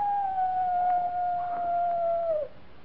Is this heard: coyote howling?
yes